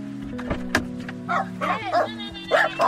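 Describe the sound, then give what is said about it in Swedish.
A dog barks several times in short, irregular bursts, moderately loud, with a few higher yipping notes and sharp clattering knocks in between, at a small house in the forest in Sörmland. “Här bor Lotta med sina hästar, hundar och 9 katter.”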